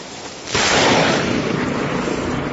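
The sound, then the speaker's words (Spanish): A loud clap of thunder during a storm in the municipality of Telde, around midday, breaks in abruptly after a brief quiet moment, then rolls on as a heavy, sustained rumble that slowly fades. No voices are heard. “La tormenta tuvo su momento más álgido a partir del mediodía, cuando comenzaba a amenazar con sonidos como este.”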